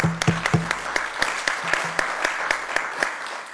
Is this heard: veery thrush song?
no